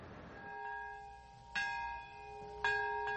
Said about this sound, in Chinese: 在原子弹70年前爆炸的那一刻，长崎和平公园响起钟声。